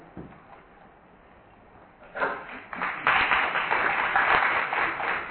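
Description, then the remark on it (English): An audience breaks into applause to acknowledge a new SABC board member as she stands up, starting with a few scattered claps and swelling into steady, dense clapping that continues loudly to the end. “The only reason I'll clap my hands because she's wearing red.”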